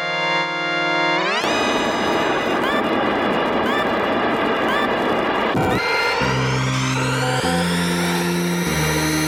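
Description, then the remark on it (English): Futuristic hover car racing video game audio from a Mode 7 game featuring Captain Falcon: a loud, dense rush of whooshing engine noise and synth tones, with sweeping pitch glides, then a rising whine over pulsing, stepped bass notes. “Now, as you can hear, there's somebody racing through there real quick. It's a very speedy game. You got your hover cars.”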